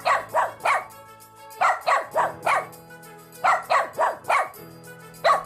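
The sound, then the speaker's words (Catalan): Bobby, a dog, barks repeatedly in quick bursts of two or three sharp barks separated by short pauses, fairly loud, with no talking over it. He is alerting that his owner's sister is having an epileptic seizure. “Es veu que encara era al llit dormint i la Conxi i la seva mare estaven a punt de sortir al carrer i el gos va començar a fer...”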